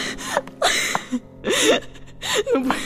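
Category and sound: human body sound, woman panting and gasping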